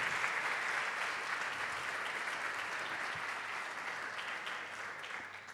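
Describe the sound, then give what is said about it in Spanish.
Sustained applause from a sizable audience, dense and steady clapping at a fairly loud, even level for several seconds with no talking over it. “Así que le vamos a dar un fuerte aplauso, ¿sí?”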